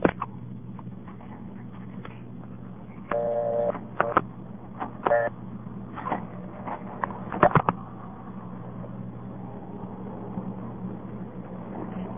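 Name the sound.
telephone dialing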